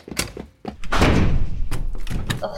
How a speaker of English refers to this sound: No, hold the door! Don't let it close!